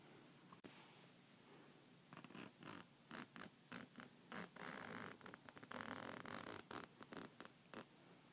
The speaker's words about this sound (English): I put the zipper in the front this time. You want me to open it, don't ya? Okay.